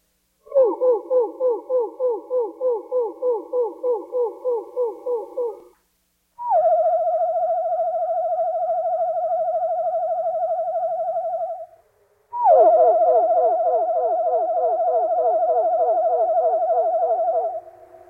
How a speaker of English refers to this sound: That was really wonderful. That's the song of the wood thrush.